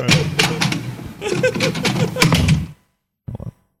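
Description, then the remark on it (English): A door being shut: shuffling and handling noises build to a dull thunk, then a moment of silence and a brief, faint clatter. “Let me get that door.”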